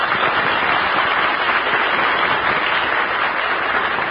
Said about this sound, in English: Let's send them a cheer from the home base.